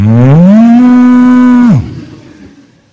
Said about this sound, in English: Cows. A tehenek.